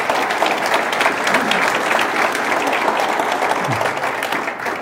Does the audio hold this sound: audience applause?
yes